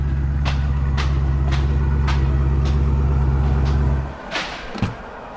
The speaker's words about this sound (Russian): Ничего себе машина.